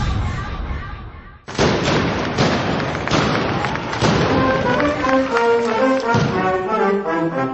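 Loud fireworks and firecrackers explode in a dense, continuous barrage, with sharp booms and rapid crackling after a brief pause, and whistling tones rising through the later bursts.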